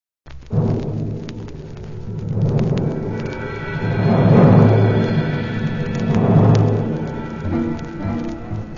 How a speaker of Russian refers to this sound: Поднялся стук, да гром, весь дворец затрясся. Гости напугались, повскакали с мест. А Иван-царевич говорит: «Не бойтесь, честные гости, это моя лягушонка в коробчонке приехала».